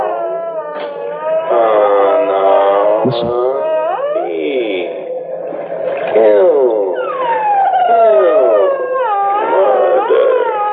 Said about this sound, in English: The high squeak of that dolphin when it slowed down this way. Listen.